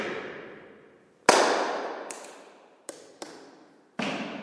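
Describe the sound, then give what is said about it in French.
Sharp, loud claps or knocks ring out inside the small Saint-Jacques chapel on the Grande Rue de l'Horloge in Corte-sur-Ciel, five strikes at irregular intervals, each followed by a long, smoothly fading echo that lingers until the next hit. No one speaks. “Ici, le son rebondit sur les parois du bâtiment jusqu'à revenir à nos oreilles. C'est le phénomène de réverbération.”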